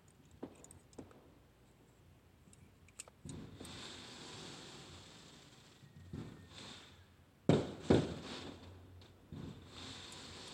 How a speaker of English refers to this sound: Y'all want to hear what that is? That's that 4th of July fireworks back there. So that is not shooting. No, there is no shooting. There's fireworks in the back. People shooting fireworks in my neighborhood.